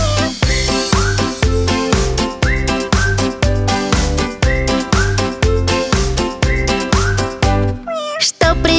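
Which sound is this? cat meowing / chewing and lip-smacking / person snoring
cat meowing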